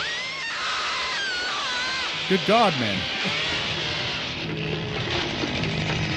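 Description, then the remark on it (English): A chainsaw snarls and grinds steadily through flesh, loud, in the trailer for the film Pieces, with a shrill rising scream near the middle and a man's voice briefly exclaiming over the din. “That is flesh through a saw, a chainsaw.”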